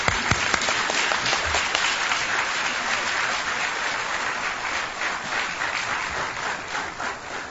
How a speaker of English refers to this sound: Could I ask everyone to please join me in giving both of these men a good round of applause?